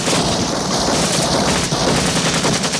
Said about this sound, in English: The squad exchanges fire with the men on the boat, one of whom is blown into the water.